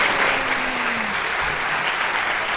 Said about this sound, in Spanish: Y este que estamos terminando de grabar, que es Nos tomamos un café, es el episodio oficial número 10. Y aquí podemos incluir unos aplausos.